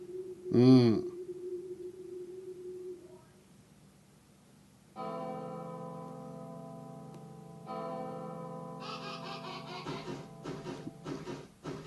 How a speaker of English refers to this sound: Okay. What was that bird there randomly for?